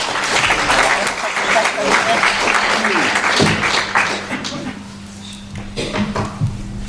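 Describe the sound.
A small group claps in a dense, steady burst for several seconds before it thins out and fades, with faint murmuring voices and a low hum underneath.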